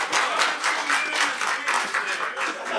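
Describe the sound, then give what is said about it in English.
A crowd applauds steadily, many hands clapping together in a dense, hissy wash that swells and dips slightly but never stops across the whole stretch, with no voices standing out. “Oh, yes, give a big round of applause, please.”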